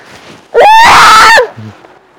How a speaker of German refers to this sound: Ja, wir brüllen heute auch einfach so.